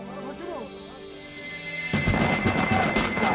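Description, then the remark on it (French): Loud, rapid gunfire erupts suddenly partway through, a dense burst of cracking shots that continues to the end, the first shots as a commando unit meets an Iraqi patrol by a river, following a quieter stretch of sustained tonal sound. “Les autres membres du commando se dispersent au son des premiers coups de feu.”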